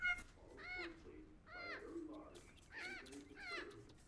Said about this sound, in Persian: ساکت باش پرنده احمق، مهمون داریم.